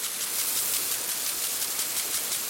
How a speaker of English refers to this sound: The green sound of water sprinklers, a sign of America's water abundance.